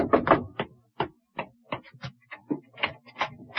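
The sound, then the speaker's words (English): A porter knocks on an office door in a quick, uneven series of sharp raps, fairly loud, starting with a heavier flurry and continuing in spaced taps. No one speaks. “And then there was no time to return the documents to the safe, no time for anything but to find out who was at the door.”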